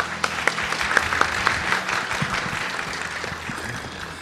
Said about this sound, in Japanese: どうぞ皆様大きな拍手でお迎えください。